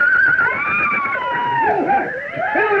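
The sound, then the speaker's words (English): Shrill, wavering whinnies rise and fall continuously, loud, with overlapping agitated calls of several panicking horses crying out in alarm over a rough background. “look, the horses, they've gone mad. They're going to bolt.”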